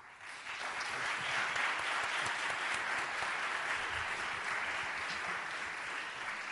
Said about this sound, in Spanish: Es que falta el regidor ahí abajo. Para indicar los aplausos.